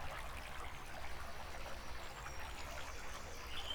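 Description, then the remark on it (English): A steady, continuous wash of flowing river water, soft and even throughout with a faint bubbling texture and no voices. “So, I stayed in my river, and I've been here ever since.”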